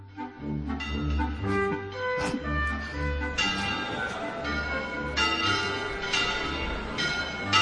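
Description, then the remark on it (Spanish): Large bells of the Mosque-Cathedral in Córdoba peal continuously, calling to mass, overlapping strikes ringing out with rich, resonant tones and long sustained hums, loud and reverberant with no talking. “Son las campanas de la mezquita catedral. Las campanas llamando a misa.”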